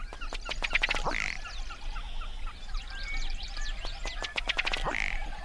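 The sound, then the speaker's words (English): A ruddy duck gives its display twice: a quickening series of dry ticking taps that ends in a short, low belching call. Other marsh birds chatter faintly in the background. “A ruddy duck.”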